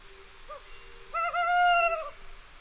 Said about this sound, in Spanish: En la oscuridad, escuchamos ulular al cárabo, un poco alejado de nuestro observatorio.